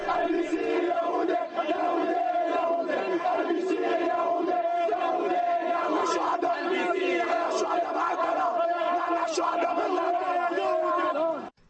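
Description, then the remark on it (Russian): A large crowd at a mass protest demonstration in front of the UN mission building in Beirut chants and shouts continuously, many voices blending into a loud, dense roar with rhythmic rising cries, sustained throughout without a break. “После событий в Кане в Бейруте прошла массовая манифестация протеста перед зданием миссии ООН.”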